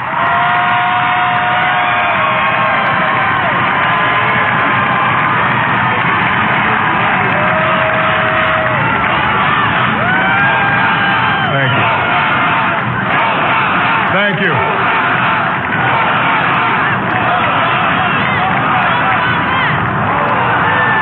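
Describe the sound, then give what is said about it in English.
A huge crowd roars with thunderous applause and cheering for the new president, Barack Obama, at his inauguration as 44th president of the United States: a loud, unbroken wash of many shouting voices and clapping, with scattered whistles and yells rising above it throughout. “Thunderous applause for the new president.”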